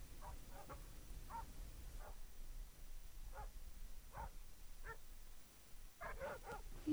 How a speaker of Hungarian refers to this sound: Megvesztek ezek a kutyák. Nem fogunk aludni miattuk.